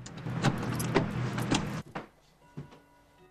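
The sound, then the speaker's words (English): A woman getting into her car after ending a phone call: a couple of seconds of busy rustling and shuffling, then quieter clicks and a soft thud, like a door pulling shut. No one speaks. “She rings off and gets in her car.”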